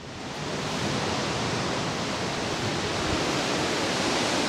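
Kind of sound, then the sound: nature, roaring waterfall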